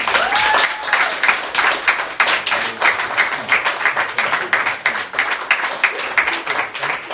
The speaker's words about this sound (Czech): jestli můžeme vyjádřit, jestli se vám to líbilo potleskem.